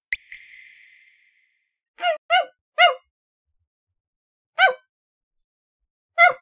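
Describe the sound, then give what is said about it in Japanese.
A dog barks in short, sharp bursts: three quick barks, a pause, then two more spaced out, preceded by a brief ringing tone that fades away. “わ、なんだよ、犬か。”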